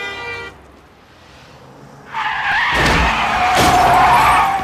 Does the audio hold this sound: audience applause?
no